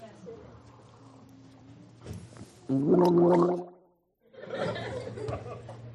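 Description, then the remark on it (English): Someone gargles salt water: a loud, bubbly, throaty gurgle lasting about a second, set among quieter rustling and breathy noises, then a brief pause before more wet, noisy sounds. “Is this my salt water?”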